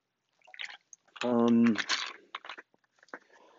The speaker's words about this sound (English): I'm going to take a little sip of water. Don't mind me.